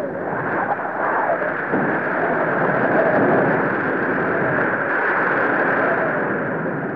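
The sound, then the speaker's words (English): Heavy rain pours down in a dense, unbroken hiss that stays loud and steady for the whole stretch, with a low rumbling undertone and no voices. “After this, it rained and rained.”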